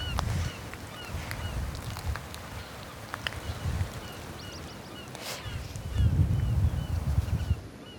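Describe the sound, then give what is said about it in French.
A flock of small gulls and larger gulls calls repeatedly, overlapping cries scattered throughout, over a low rumbling wind-like background that swells near the end. “Les voilà les mouettes. Allons voir. Il y a des mouettes, il y a des goélands.”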